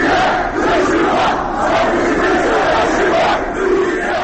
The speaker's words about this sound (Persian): در گردهمایی اعتراضی حامیان تاتارهای کریمه در استانبول تظاهرکنندگان در حمایت از آنچه برادر و اتحاد علیه دشمن می‌خواندند شعار می‌دادند.